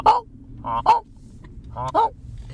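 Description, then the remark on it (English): Geese in flight honk in loud, nasal bursts, about five calls coming in quick pairs with short gaps between them, over a low steady rumble and no talking. “Sometimes you can hear them coming. All honking away.”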